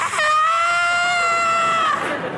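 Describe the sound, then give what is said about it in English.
A single loud, piercing scream held for nearly two seconds at a steady high pitch, harsh and strained, cutting off abruptly with no other voices around it. “She hears just a blood-curdling scream from next door.”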